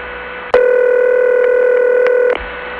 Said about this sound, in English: just think of all those flooded phone lines on permanent signal, because that's the tone that it uses.